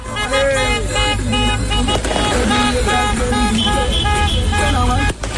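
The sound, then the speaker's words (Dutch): In Morocco, football supporters take to the streets honking loudly after Morocco is awarded a 3-0 win over Senegal: continuous street noise full of overlapping horn toots and honks, mixed with shouting and cheering voices and the rumble of passing traffic. “Supporters gingen in Marokko meteen luid toeterend de straat op.”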